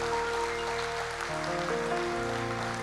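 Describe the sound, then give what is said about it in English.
A church audience gives God a round of applause, clapping steadily for about three seconds, a dense crackling wash of applause over sustained keyboard chords that shift partway through. No one speaks. “Let's give God a round of applause, man.”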